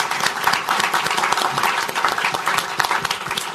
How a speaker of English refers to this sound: On that note, I want to say thank you to our panelists. Can we give them a round of applause for attending?